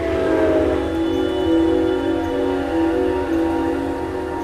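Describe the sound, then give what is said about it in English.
A train approaches and rumbles past at close range, growing louder, loud and sustained, with steady tonal whining or horn-like tones riding over the heavy low roar. No one speaks. “And as it gets closer and closer, it gets louder and louder, and you can feel it more throughout your whole body.”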